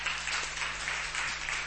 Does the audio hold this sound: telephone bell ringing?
no